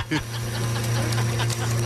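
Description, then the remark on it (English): An office coffee machine hums with a steady low drone while irregular bubbling, gurgling bursts pop over it, fairly loud and continuous for the whole couple of seconds. “The bubbling is the coffee machine.”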